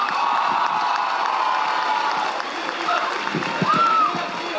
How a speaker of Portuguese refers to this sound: Eu queria entregar em nome de todos os alunos do Pé de Meia uma salva de palmas, gente.